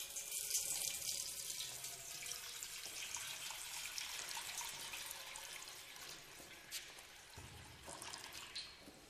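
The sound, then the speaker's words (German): Baptismal water pours steadily from a heavy jug into a baptismal font during a baptism, a continuous splashing gush that fills the space for several seconds before thinning slightly near the end. No voices are heard. “Und jetzt müssen wir gießen und jetzt kommt das Taufwasser.”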